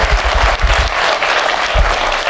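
A live audience at Adepticon claps loudly and steadily, a dense wash of many overlapping hand claps that keeps going the whole time, with no voices standing out above it.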